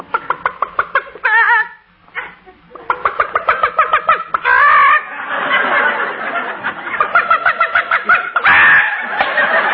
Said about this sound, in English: We've got to feed the chickens. Here, chick, chick, chick, chick, chick, chick, chick, chick, chick, chick, chick. Come on, chick, chick, chick, chick. Here's some corn for you.